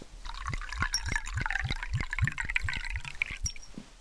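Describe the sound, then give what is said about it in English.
Water pours steadily into a glass at a family meal table, with rapid glugging pulses and a bright splashing trickle running for several seconds, fairly quiet, with no voices. “Here you are, Harry, a glass of water.”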